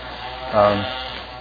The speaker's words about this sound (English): Let's let that little motorized bike go by here. So, all right, kind of hard to hear.